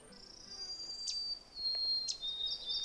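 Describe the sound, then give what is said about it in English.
Two sharp, high chip notes from a chestnut-sided warbler, spaced about a second apart, stand out over a steady, high-pitched insect drone, early on a hot morning on a trail off Otter Lake Road. “The bird that's chipping is a chestnut-sided warbler”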